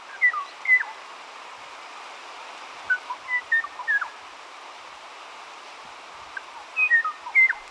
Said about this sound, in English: The demise of the Kauai o'o and perhaps 15 other native Hawaiian forest birds was greatly hastened by mosquito-borne avian diseases, where neither the mosquito nor the disease was native. At least we have the o'o's song to remember it by.